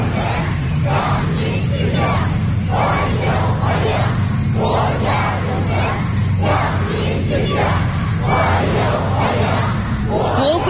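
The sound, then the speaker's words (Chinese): A large crowd of young voices, youth representatives holding flowers, cheers and chants continuously, loud and energetic, with rhythmic rising shouts swelling every second or so. They are welcoming national medal and honorary title recipients on the red carpet outside the east gate of the Great Hall of the People. “秋风如送，青少年代表手持鲜花，欢呼着迎接功勋模范的到来。”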